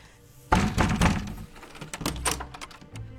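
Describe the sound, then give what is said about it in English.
A door is unlocked and opened: a heavy clunk of the latch, then a quick run of clicks, knocks and rattling before things settle into quieter shuffling. “Open up the door, man.”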